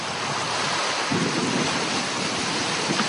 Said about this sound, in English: A morning thunderstorm on Funafuti Atoll is a mixed blessing. The storm fills the water tanks with needed fresh water,